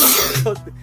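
A single sharp, explosive sneeze bursts out close to the microphone, loud and breathy at first, then trailing off quickly into a short, softer voiced tail.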